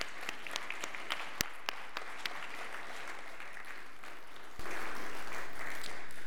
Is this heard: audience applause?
yes